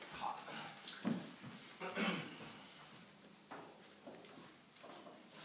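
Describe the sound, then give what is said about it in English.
A door is handled and shut, giving a couple of soft, muffled clunks about a second apart, heard quietly against a steady background hiss with no one talking. “I'm going to close the door now because it's”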